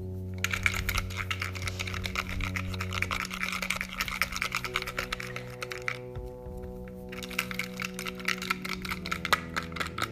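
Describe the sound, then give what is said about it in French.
Two small paper slips shaken inside a closed box for a prize draw make a rapid, irregular rattling and tapping that goes on for about ten seconds, pausing briefly near the end, over a steady low hum. “J'ai fermé la boîte et je vais secouer devant vous.”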